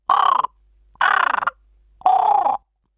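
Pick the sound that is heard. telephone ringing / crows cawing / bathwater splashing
crows cawing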